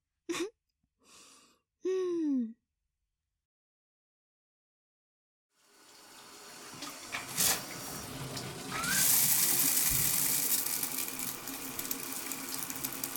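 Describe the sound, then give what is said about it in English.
A few short breathy vocal sounds, a couple of seconds of silence, then shower water starts running, a steady hissing spray that swells louder and keeps pouring to the end. “Time for a shower.”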